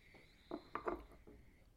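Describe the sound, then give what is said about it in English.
Someone takes a quiet third sip of a drink, a few soft slurping and swallowing sounds in quick succession, with no talking. “And it's beautiful, and in the mouth itself, it kind of leaves you with almost a desire for the next sip, which I want to take right now, my third sip.”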